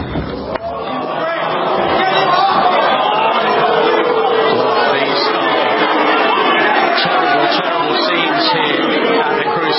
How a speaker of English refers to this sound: Take note of the loud, sustained booing from people who paid good money to attend the match.